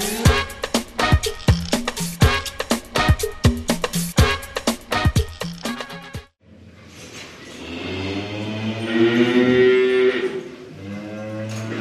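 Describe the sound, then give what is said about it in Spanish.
A cow lets out one long, loud, drawn-out moo that swells and fades over several seconds, following a stretch of brisk, clattering percussive beats. “¿Qué nos hace diferente de una vaca?”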